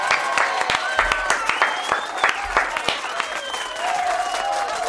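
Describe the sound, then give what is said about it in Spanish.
An audience bursts into steady, dense applause, given as a prize, a continuous crackle of many hands clapping at once, with voices whooping and calling out over it throughout. “¡Este aplauso! ¡Este es tu premio!”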